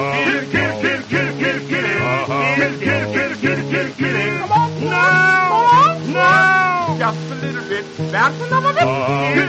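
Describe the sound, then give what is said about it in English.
Drawn-out, meow-like cries rise and fall over steady, repeating musical accompaniment, loud, with the wailing most pronounced in the middle of the passage, probably a voice imitating a cat. “for you can hear her calling cat at any time of night.”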